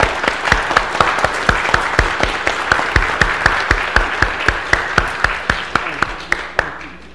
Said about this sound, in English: But let us now welcome her with the gift of applause.